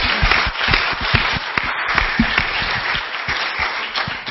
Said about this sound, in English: I think that we need to give them another big round of applause for the work they've done.